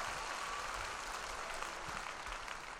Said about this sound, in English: Our vocal group in the back. A little bit of applause for the vocal group.